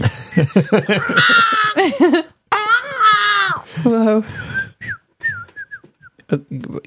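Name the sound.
whistled imitation of birdsong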